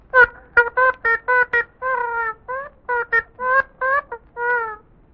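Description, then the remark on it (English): A duck called Happy Duck, which paints with its duck tracks, quacks in reply to a question about its painting: a rapid, chattering series of about a dozen nasal quacks, fairly loud, in short uneven bursts with a few longer drawn-out calls. “Happy Duck, what does that represent, this painting you've done?”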